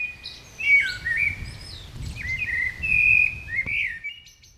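Blackbirds sing in a city, a continuous stream of fluting, warbling phrases at moderate volume over a low rumble of urban background noise.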